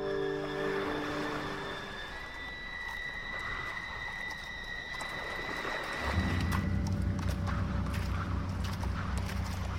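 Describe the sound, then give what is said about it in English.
Horses walk along with an uneven, steady clip-clop of hooves, and a low droning hum swells in partway through. “I have your horses.”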